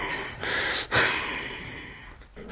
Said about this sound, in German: Also ich habe den Schlag ausgeführt mit Kraft und Schnelligkeit und komme ins Schnaufen.